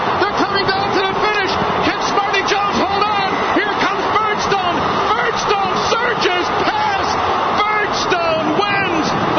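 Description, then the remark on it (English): A huge crowd of about 120,000 at the Belmont Stakes horse race roars continuously as the leading horse enters the stretch, countless voices blending into a dense, loud wall of cheering that holds steady from start to finish with no single clear speaker. “Smarty Jones enters the stretch to the roar of 120,000”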